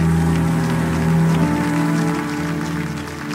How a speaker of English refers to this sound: If you're thankful for that, online and here in Prince George County, give that Jesus a great hand clap.